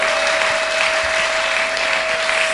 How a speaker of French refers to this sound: Applaudissez d'abord le Seigneur.